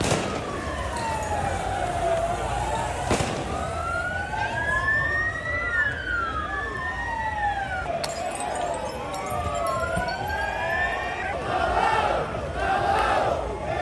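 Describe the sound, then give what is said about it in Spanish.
Several wailing sirens rise and fall over a loud, dense crowd roar with shouting and chanting during clashes between Eintracht and Rangers football supporters around midnight, the noise steady throughout and swelling with yells near the end. “Anoche ya se produjeron los primeros enfrentamientos entre ambas hinchadas, a eso de las 12 de la noche.”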